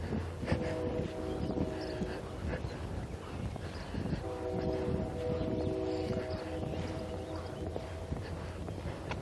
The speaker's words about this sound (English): I can hear the train whistle this morning. Actually, I can hear the train engine rumbling in the distance. It's about 5 miles away, the railroad track. And some mornings I can just barely hear it. This morning I hear it quite clearly.